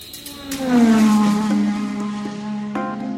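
A car engine revs up loudly and pulls away, its tone climbing and then settling into a steady hum as two people drive off toward Jima Street in Paris, with no voices.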